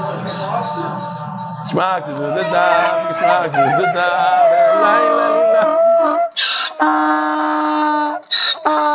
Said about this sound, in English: That's a shofar, you hear that? That's not me.